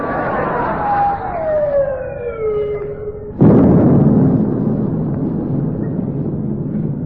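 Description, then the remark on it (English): A descending whistle of an incoming naval shell falls in pitch for a few seconds before a single loud explosion bursts out and rumbles on, with heavy noise continuing afterward; naval gunfire from the rest of a fleet firing at a ship. “They're coming from the rest of the fleet. They're all banging off at us.”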